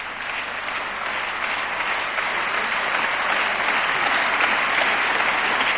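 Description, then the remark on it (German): Steady, dense applause from an audience during a political speech fills the whole stretch, a broad wash of clapping that holds at an even, fairly loud level without any speech over it. “Jetzt könnt ihr auch klatschen.”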